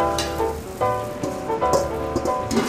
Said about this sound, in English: So our butter's nice and hot. We add the potatoes. You can hear it kind of sizzling.